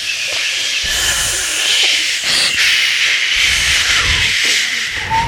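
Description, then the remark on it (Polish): A river flowing through an unusual channel rushes steadily in a continuous, loud hissing wash, with a bright, airy texture and slight low rumbling surges underneath; no voices are heard. “Rzeka poruszała się w takim ciekawym korycie, dlatego właśnie tak dziwnie brzmi.”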